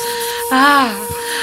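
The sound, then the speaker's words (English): A hairdryer blows with a steady airy hiss and a constant motor whine, then swells briefly louder with a higher droning tone that sinks back down before the steady blowing continues. “Okay, we don't have a heat lamp, but I was able to find a hairdryer.”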